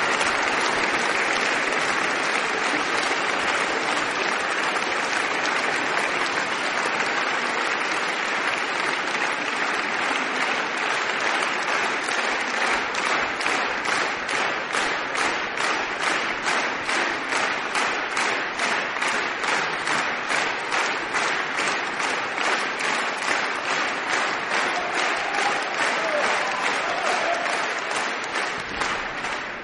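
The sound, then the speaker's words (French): Sustained applause from a large concert audience for pianist Romain Descharmes with the Orchestre de Paris conducted by Alain Altinoglu, before an encore. It stays loud and steady throughout, and rhythmic clapping in unison emerges in the second half. “Et Romain Descharmes va certainement remercier le public de ses applaudissements avec un bis.”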